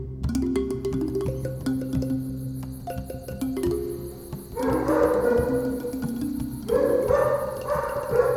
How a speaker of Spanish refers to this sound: Al llegar al lugar indicado, los perros comenzaron a ladrar inquietos. Luego se apaciguaron.